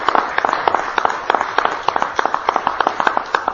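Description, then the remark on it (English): An audience at a meeting applauds the Advisory Committee steadily, with dense overlapping handclaps forming a continuous crackling patter at an even, fairly loud level throughout, and no voices heard. “Thank you so much for your help, your sacrifice, and how about a big round of applause for the Advisory Committee.”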